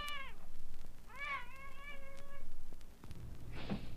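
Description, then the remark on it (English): A cat, already up and looking for its breakfast, meows twice outdoors, a short call followed by a longer drawn-out one, over a low steady background rumble with a faint thump near the end. “Outside, a cat is already up and looking for his breakfast.”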